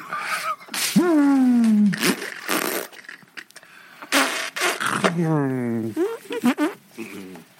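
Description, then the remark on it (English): Several loud mouth farts, wet blown raspberries made with the lips, mixed with squeaky, wavering vocal noises in short bursts. A person's voice imitates the flatulence. “Is that a mouth fart?”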